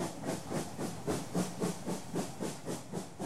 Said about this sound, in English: Soon Jane the Royal Train was ready again. Whistle, hoot, toot, toot, along the track. Clickety-clack, clickety-clack, clickety-clack.